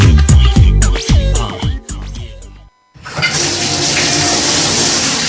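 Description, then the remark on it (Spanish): Following a brief run of tonal, musical sounds and a short silence, water gushes steadily from a tap, a loud, continuous rushing that lasts to the end. “Cada vez que hacemos este gesto, invertimos en el futuro de la provincia de Almería. Porque cada gota cuenta, consume agua de forma responsable.”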